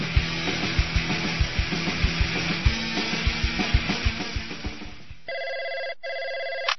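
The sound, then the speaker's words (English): A telephone rings with a rapid, rattling bell pulse for several seconds before an answering machine picks up, then gives way to a steady, bright electronic tone broken by one short gap. No one speaks. “We're not available to take your call.”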